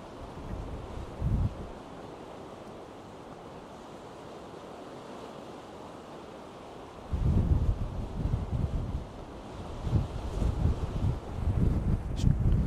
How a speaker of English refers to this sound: So I'm hoping that the microphone's picking up the wave noise. It's a bit too windy for the Zoom on the internal microphone.